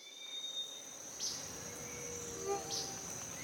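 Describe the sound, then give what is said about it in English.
Rainforest ambience in Panama filled with a steady, high-pitched drone of insects, a couple of brief sharper chirps rising above it, and a dense, even wash of background noise. No one speaks. “Today, we're going to a rainforest in Panama.”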